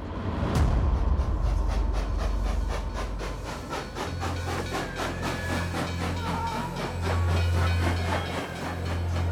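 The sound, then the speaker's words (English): A train of cattle cars rolls steadily along the tracks toward the Auschwitz camp, wheels clacking in a regular rhythm over a deep low rumble, with a brief hiss of steam near the start and no voices. “Sometimes thousands of people arrived at the camp in one day, ferried across Europe in cattle cars.”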